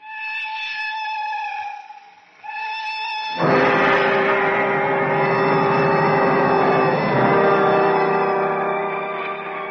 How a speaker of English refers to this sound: The whistle of the cattle train into which we've been packed is the answer to my father's assurances.